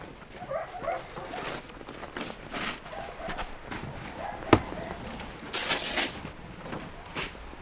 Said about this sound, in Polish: Rozbijam górkę i zabieram do taczek śnieg.